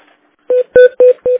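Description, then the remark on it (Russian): Four short, evenly spaced telephone keypad tones beep in quick succession, clear, as a number is dialed to transfer a call from the Saint Petersburg Rospotrebnadzor office to a woman in her office, with no talking over them. “Сейчас, да-да-да, я вас сейчас переведу, она в кабинете.”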